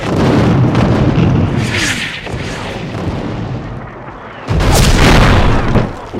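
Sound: artillery shell explosions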